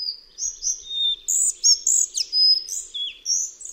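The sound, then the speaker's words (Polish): A male songbird sings a quick run of varied, high-pitched phrases, bright chirps and slurred whistles rising and falling in pitch, with few repeats, clear against a quiet background. “Zwrotka składa się z kilku dźwięków o niższej lub wyższej tonacji, przy czym sylaby te zwykle nie są powtarzane.”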